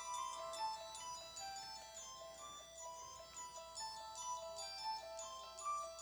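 A horror film theme plays: a quick, repeating high-pitched bell-like keyboard melody with steady rhythmic notes, moderately quiet, with no voices over it.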